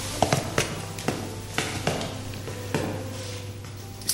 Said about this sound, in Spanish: El sonido de las llaves de un guardia abriendo tu celda significa que se acabó, que lo siguiente puede ser la ejecución.